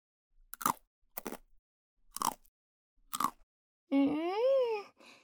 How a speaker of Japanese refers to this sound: パッキー美味しいです。チョコの甘さとポリポリ感が味の明治維新してますね。